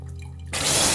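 A quiet low hum gives way halfway through to a sudden, steady stream of water splashing down as a person rinses with a neti pot, water running in one nostril and out the other, fairly loud.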